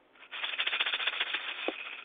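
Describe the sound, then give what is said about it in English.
Cats running around upstairs: a steady stretch of rapid, irregular pattering and rattling bumps, fairly loud and continuous for about two seconds, with one sharper knock near the end and no voices. “Are cats ringing around upstairs, or thunder? Cats. Is it cats? Yeah.”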